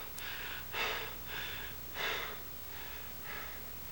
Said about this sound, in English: Panting, Charlie leans against the door.